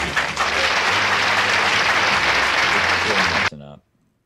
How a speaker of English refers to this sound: I'm guessing the Zoom does not like the clapping.